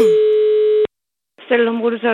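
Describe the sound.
A single steady telephone ringing tone sounds for under a second during an outgoing call to a Statoil petrol station in Denmark, then cuts off into a brief silence before a voice starts speaking over the line.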